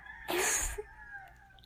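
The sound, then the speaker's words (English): A rooster crows once in a short, harsh burst at almost 4 a.m., cutting through an otherwise quiet background and fading quickly, with no one talking. “Fucking roosters.”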